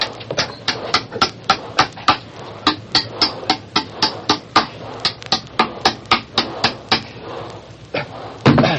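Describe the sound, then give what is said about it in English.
Steady hammering of nails to fasten steering chains to a wooden bulkhead: about thirty sharp, loud blows in a fairly even, quick rhythm, each a bright woody crack, with no one speaking. “You mean you're going to nail the steering chains to the bulkhead?”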